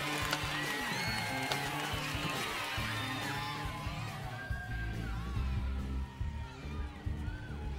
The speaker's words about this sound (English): What is that? Is that applause? That's applause! The show started! And we're trapped down here.